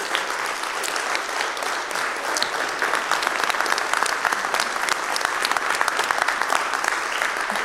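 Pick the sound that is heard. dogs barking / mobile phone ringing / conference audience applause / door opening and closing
conference audience applause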